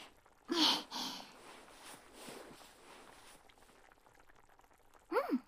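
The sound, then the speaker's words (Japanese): A pot simmers quietly on the stove with a soft, steady bubbling hiss, after two short bursts of handling noise near the start. A brief vocal sound breaks in right at the end. “よしよし、あとはこれを煮込んで、あ、そうだ、味見とかしとかないと。”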